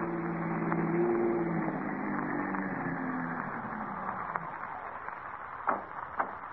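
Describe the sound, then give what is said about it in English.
A car engine hums low and steady, slowly winding down as the car pulls into the driveway of a tree-shaded house and rolls to a stop, followed by two sharp mechanical clicks near the end. “In the meantime, another car pulls into the driveway of a tree-shaded house where dim lights flicker behind drawn window shades.”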